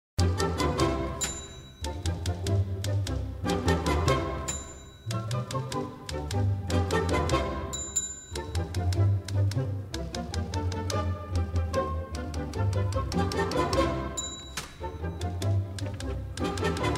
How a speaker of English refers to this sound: Ah, yes, the old typewriter goes on, and so do we.